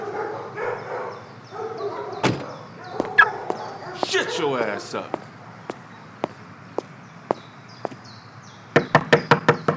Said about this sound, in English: Just, knock on the door and come in.